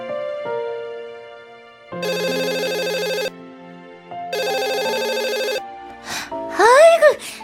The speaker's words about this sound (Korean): 전화 좀 받아줘요. 화장실 일보다가 끊고 나왔잖아요. 받지마. 스팸 전화야.